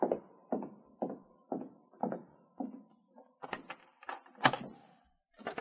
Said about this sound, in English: I'll open the door for you and King.